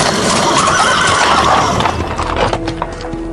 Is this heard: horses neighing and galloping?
yes